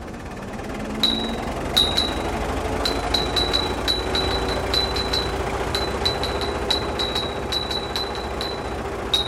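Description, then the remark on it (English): Field recording at an old oil field in Azerbaijan, recorded by Peter Cusack: irregular, sharp metallic clinks with a brief high ring repeat over a steady, droning low rumble of machinery, with no voices. “And that last sound, it's from an old oil field in Azerbaijan, and it was recorded by Peter Cusack, whose website is called Sounds from Dangerous Places.”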